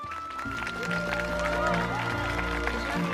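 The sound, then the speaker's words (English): A small group of parents claps in quick, uneven bursts over a steady background of sustained tones and crowd murmur, the applause moderately loud and continuing throughout. “Rose beams as Josh's parents clap.”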